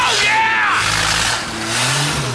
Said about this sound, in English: Is that an engine I heard? Not ours.